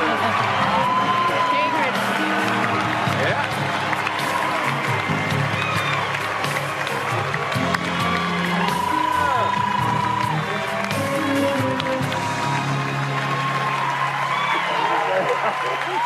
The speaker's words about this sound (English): Now look at this, hugging it out with John Travolta. He just hit a man, they're all clapping, they're all...